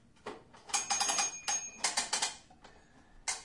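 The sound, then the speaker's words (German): A bell rings in a series of bright, rattling bursts with sustained high tones running through them, fairly loud and unbroken by talk, pausing briefly before a final burst. “dann kommt ein Geräusch. Die Klingel.”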